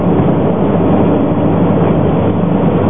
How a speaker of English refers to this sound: Goodness me, another vehicle. Sometimes I can drive home and see just one or two vehicles. I suppose that might be tonight. That's the first one I've seen for a while.